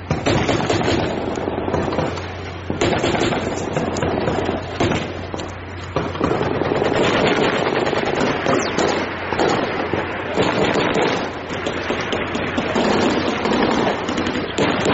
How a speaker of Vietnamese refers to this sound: Tiếng súng nổ mỗi lúc một dữ dội thêm, Huỳnh Mai nghe rõ cả tiếng thân sậy bị đứt gãy trong làn đạn.